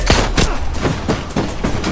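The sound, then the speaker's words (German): A rapid burst of machine gun fire striking a metal door, about seven sharp cracks in an even rhythm with a clattering, metallic edge, loud throughout with no voices. “Blitzschnell zog ich die Tür wieder zu und die Salve aus der MG traf die Metalltür.”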